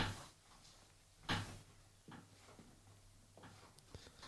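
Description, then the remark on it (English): A creaky office chair shifts under someone squirming uncomfortably, giving one louder creak followed by several softer creaks and knocks at uneven intervals, over a low steady hum. “Like, I'm sitting in my office chair and I'm a little uncomfortable, so I'm squirming a lot.”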